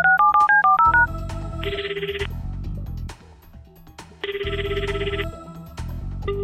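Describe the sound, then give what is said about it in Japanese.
A quick run of about eight electronic telephone keypad tones beeps out clearly as someone redials after a call was cut off, followed by two bursts of a buzzing phone ring signal, with no voices. “またちゃんと納得できる説明をするまで何度でも電話してやるんだから。”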